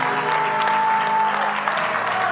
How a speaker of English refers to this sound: Can I get a few more of y'all to clap like you've been through something? Come on. Come on. Come on,